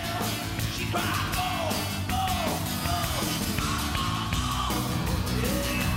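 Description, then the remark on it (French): An acoustic guitar version of a rock song, not slowed down much, plays loudly and without pause, dense steady strumming beneath a strained, wailing vocal that slides up and down in pitch. “Ben, OK, il y a une guitare acoustique, là, mais...”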